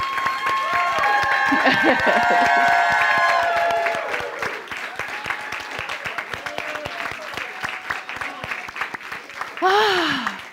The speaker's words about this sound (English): You deserved all of that clapping. You really did.